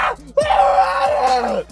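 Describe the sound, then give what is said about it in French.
A voice imitates the pained cries that woke someone in the morning: a short strained sound, then a long, loud, wavering groan-like scream that holds steady for over a second before cutting off. “Je me suis pas levé, je me suis fait réveiller par des cris du genre”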